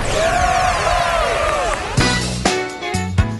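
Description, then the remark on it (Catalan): Students of the Institut Lluís Domènech i Muntaner de Reus cheer and shout after winning a TV quiz show, amid streamers and balloons, a loud, continuous roar with rising and falling whoops, then a series of punchy musical hits cuts in over the noise partway through. “Com estan els crits, les serpentines, globus, què tenim per aquí?”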